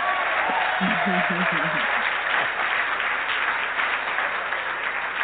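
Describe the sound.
An audience claps steadily for several seconds, a dense, even wash of applause, with a voice briefly heard over it near the start.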